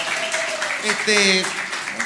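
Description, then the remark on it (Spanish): An audience at a show breaks into steady applause for the host's first guest, a dense wash of clapping lasting about two seconds, with whoops and shouting voices rising over it. “fuerte aplauso para mi primer invitado”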